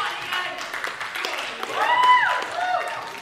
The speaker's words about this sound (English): Cheer him on.